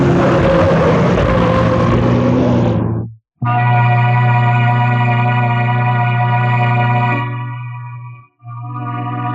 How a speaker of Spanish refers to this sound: Controla el auto Sport a vertiginosa velocidad en esta carretera sinuosa. Efectúa cambios de velocidad para aminorar la marcha, lográndolo en parte.